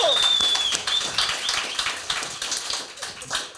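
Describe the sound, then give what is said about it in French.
A crowd applauds with dense, steady clapping for several seconds, and a shrill high whistle cuts through at the start. “Fait une bonne main d'applaudissement”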